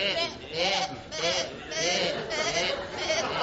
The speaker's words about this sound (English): It's my belief that these sheep are labouring under the misapprehension that they're birds. Observe their behaviour. Take for a start the sheep's tendency to hop about the field on their back legs.